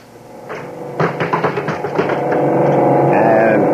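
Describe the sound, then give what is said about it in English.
A buzzer sounds to summon Bismarck, a robot: a quick run of tapping clicks gives way to a steady, loud electric buzz that holds to the end. “I'll buzz Bismarck.”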